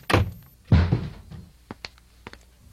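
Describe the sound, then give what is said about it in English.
Two heavy thuds strike a door about half a second apart as a shoe is thrown against it. A few faint ticks and knocks follow. “Don't you ever throw another shoe or any other object against that door.”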